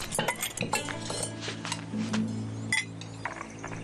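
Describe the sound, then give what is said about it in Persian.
Metal cutlery clinks and rattles repeatedly at close range, sharp bright taps scattered irregularly over a low background hum, like forks being gathered or handled. “چنگالامو بده بیارم.”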